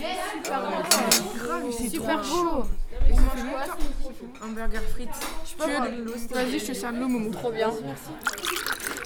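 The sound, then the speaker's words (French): Dishes and cutlery clink intermittently during breakfast, scattered light knocks and chinks sitting beneath steady conversation that runs through the whole stretch. “Nous déjeunons.”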